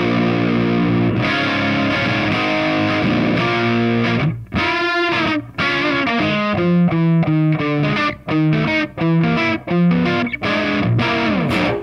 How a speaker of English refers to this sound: It's sort of buzzy and warm, and that's pretty much the amp distortion on its own.